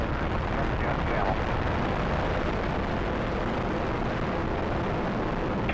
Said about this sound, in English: T-minus 10, 9, 8, 7, 6, 4, 3, 2, 1. And liftoff of Space Shuttle Atlantis, the final visit to enhance the vision of Hubble into the deepest grandeur of our universe.